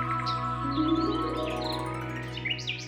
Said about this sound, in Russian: Чик-чирик! Прилетел воробей.